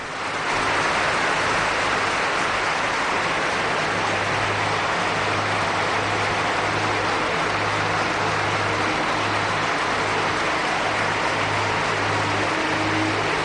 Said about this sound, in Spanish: Pero el partido y el fin de semana nos deja una noticia luctuosa y trágica, que es el fallecimiento de Fernando Puig Edoña, el que fuera presidente del Málaga del 97 a 2001, y esta fue la ovación que le tributó la Rosaleda.